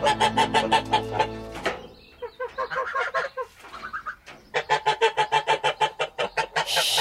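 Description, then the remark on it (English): A flock of geese cackling and honking loudly, a dense run of rapid, repeated calls with a short dip in the middle before the clamour picks up again, as they are fed wheat. “Here you are, geese. Here's your wheat.”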